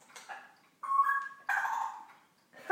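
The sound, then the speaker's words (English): A male pet bird calls: a few short chirps, then two louder, drawn-out squawking whistles in a row, with no one talking over them. “You've been a funny bird.”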